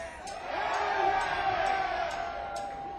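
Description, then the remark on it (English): A concert crowd in Brooklyn roars and cheers in a sustained wash of many voices shouting "yeah" when asked if they want to hear one more song, with scattered whoops and faint sharp claps rising above the steady din. “You guys want to hear one more song? Say yeah.”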